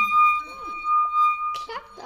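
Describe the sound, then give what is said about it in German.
A wet finger circling the rim of a glass with water in it draws out a steady, pure ringing tone that holds unbroken from start to finish, while people talk over it. “Man tut da Wasser rein, befeuchtet ein bisschen den Finger und dann gehen wir an diesen Rand entlang und das macht dann einen Ton”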